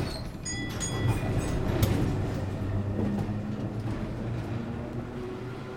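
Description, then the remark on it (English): A tram rolls steadily along its rails with a continuous low rumble and hum, a few high metallic squeals near the start, moderately loud, with no voices. “Then he left the office and took a tram to Broadway.”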